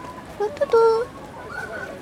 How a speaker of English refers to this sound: And can you hear those butcher birds? Gosh, I love that sound.